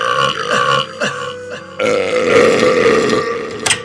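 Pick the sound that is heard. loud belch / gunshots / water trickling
loud belch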